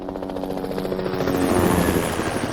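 helicopter flying overhead

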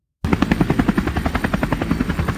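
helicopter approaching

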